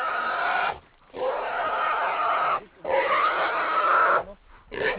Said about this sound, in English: Ahead, in a small grass clearing, the dogs have pinned down a pig. It's a large black sow that probably weighs close to 150 pounds. The dogs are holding it by its face, their teeth gripping its cheeks and ears.